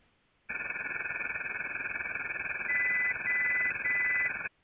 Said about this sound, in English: Wait until you hear the beeping sounds. Listen now to how it will sound when the beeping sounds come through the rushing noise.